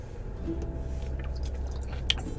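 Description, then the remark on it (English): Quiet slurping and sipping of soda from a nearly empty can, a string of small wet clicks and squishy sucks over a low background rumble, ending with one sharper pop. “I got to sip up on some DC because I'm getting thirsty here.”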